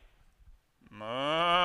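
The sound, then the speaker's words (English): A single loud cow moo swells in after a moment of near silence and low rumble, holding a rich, drawn-out bellow that grows stronger toward the end. “Oh, and cows too. I hear something, King Saul.”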